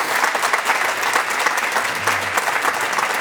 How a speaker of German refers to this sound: Ein Applaus